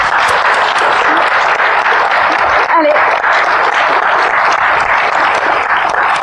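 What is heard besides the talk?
audience applause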